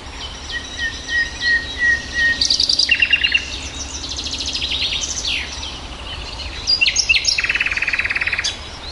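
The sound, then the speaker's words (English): A nightingale sings alone, clear, stringing together varied phrases of sharp whistles, rapid rattling trills and quick repeated notes over a faint hiss of background ambience. “It is the most celebrated bird in English literature, the nightingale.”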